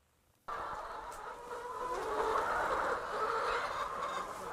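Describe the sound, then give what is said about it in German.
A dense chorus of many white laying hens pecking, scratching, clucking and cackling together on a free-range farm with 13,000 hens near Reutlingen, Baden-Württemberg, Germany. A steady din with overlapping calls and faint scratching, no speech. “Da picken, scharren und gackern sie, die weißen Legehennen von Frank Zieb.”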